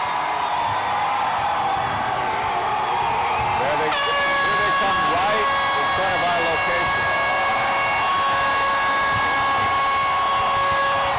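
A loud, sustained air horn blasts from a fire truck carrying players and family in a street parade, over a steady crowd roar, its bright harmonic tone holding for several seconds.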